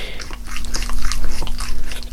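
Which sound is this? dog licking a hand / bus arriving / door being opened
dog licking a hand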